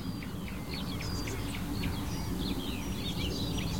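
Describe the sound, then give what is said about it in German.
A blackcap gives repeated short, hard, pebble-like calls amid a busy scatter of high bird chirps, all over a steady low rumbling background. “Jetzt hört ihr sie, das kieselsteinartige Rufen der Mönchsgrasmücke.”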